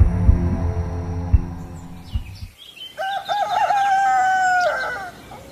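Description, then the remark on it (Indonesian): A rooster crows once on a cool morning in the countryside, a long wavering call from about three to five seconds, after a stretch of low rumbling noise; faint bird chirps sit in the background. “Pagi dengan suasana pedesaan yang sejuk, kicau burung, kokok ayam, dan suara kambing menambah suasana pagi jadi menyenangkan.”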